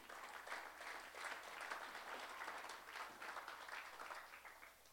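A crowd applauds steadily as a hand clap of praise to God, many hands clapping in a dense, continuous patter that holds fairly even for several seconds before easing slightly at the end.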